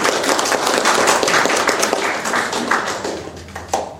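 A crowd applauds with dense, steady clapping that stays loud for a few seconds, then gradually thins and fades toward the end.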